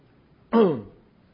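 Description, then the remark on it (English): A single short, rough throat-clearing cough bursts out, then trails off quickly, with quiet background before and after and no talking. “I think it's just a miracle that I'm not suffering a heart attack with this cough.”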